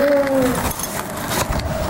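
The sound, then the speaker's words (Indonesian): A child hums a brief, steady vroom imitating a passing car, the tone sliding slightly downward before fading into faint rustling background noise. “Nih, misalnya mobil lagi lewat.”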